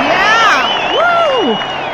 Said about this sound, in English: Okay, so Pat Patterson, just exciting, exciting, exciting, will be on TV tonight, March 19th at 9 p.m. She is appearing on the new ABC drama, Time After Time. Hit me with an applause on that.